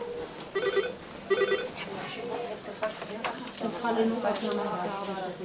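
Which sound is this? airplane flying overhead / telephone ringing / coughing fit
telephone ringing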